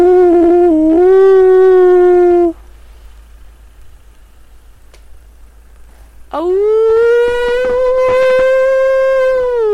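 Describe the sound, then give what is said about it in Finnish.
Two long, sustained wolf howls imitated by human voices, a lower one by a man first, then after a quiet pause a higher, rising female wolf howl imitated by a woman, both loud. “Noin ulvoo naaras susi.”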